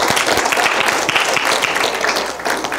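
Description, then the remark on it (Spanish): A crowd claps loudly and steadily, many hands at once forming a dense, continuous roar of applause that holds at full strength throughout without letting up; a standing audience at a religious service applauding the Lord Jesus Christ. “Ponte de pie, por favor. Dele fuerte el aplauso al Señor Jesucristo.”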